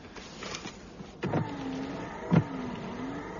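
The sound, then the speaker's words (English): Car windscreen wipers are switched on to check that they work, a whirring motor whine with regular sweeping strokes and a soft thunk at the end of each pass, roughly once a second. “Well, I don't buy a car without seeing if the windscreen wipers work.”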